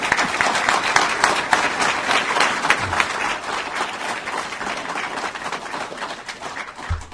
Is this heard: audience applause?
yes